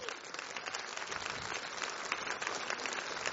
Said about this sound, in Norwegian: Takk for applausen.